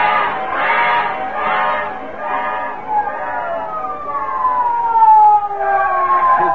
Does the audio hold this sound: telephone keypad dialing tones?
no